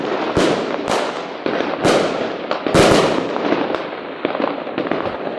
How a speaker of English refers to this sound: This whole segment, you kind of got to appreciate that I loaded up a firework sound effect within 5 seconds.